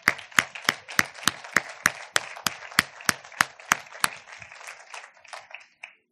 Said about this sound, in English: Can we just give a hand clap for our new sister in Christ?